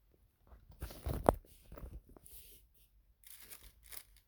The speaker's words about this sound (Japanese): ビニール袋うまくできるかな。